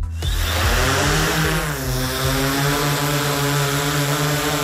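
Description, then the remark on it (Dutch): A Search and Rescue Nederland drone hovers during a search for a missing surfer's body and surfboard, its propellers giving off a loud, steady high-pitched buzz with a slight shift in pitch partway through, and no one speaks over it. “En daar hebben ze ons gevraagd van, willen jullie met de drone kijken of je wat kunt betekenen voor ons? En dat zijn we nu aan het doen.”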